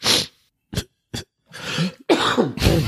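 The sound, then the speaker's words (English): A string of loud coughs from a person with a cold: two short sharp hacks after an opening burst, then longer, rougher, chesty coughing fits with no talking. “Or a cough. I'm still ravaged with this cold.”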